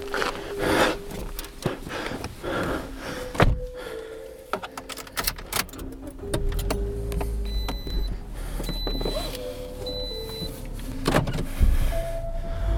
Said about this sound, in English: Maybe it was just the running water and the cars driving by, but there was something alive down there.